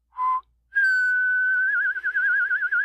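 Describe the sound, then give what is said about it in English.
A short whistled note, a brief pause, then a long, steady, clear whistle that begins to waver and trill toward the end, with no talking. “All right, fine, but the whistling horse stays.”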